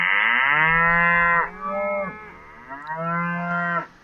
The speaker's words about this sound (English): Okay, we've got a new jingle. We got beef. That is good. Genuine cows there. Let's do it again.